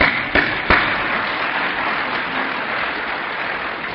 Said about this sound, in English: So stand up and give yourself an applause.